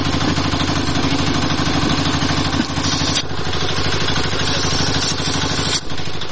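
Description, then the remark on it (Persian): Tank engines in the city of Kabul at the start of a military coup against Daoud Khan's government rumble steadily with a deep, throbbing drone and mechanical clatter, loud and continuous throughout, with a couple of brief dips in intensity. “صدای تانک ها در شهر کابل شنیده شده و کودتای نظامی علیه نظام داود خان آغاز می گردد.”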